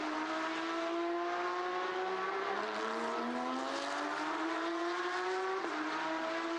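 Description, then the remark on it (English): A race car engine screams steadily as it accelerates, its pitch climbing smoothly before dropping sharply at a gear change near the end, then rising again. It is the blue and white car of championship leader Daniel Liu Wenlong, heading out on the far side of the circuit. The sound is continuous, with no talking. “And the next best is a 2.069 from championship leader Daniel Liu Wenlong in the blue and white car, heading out on the far side of the circuit now.”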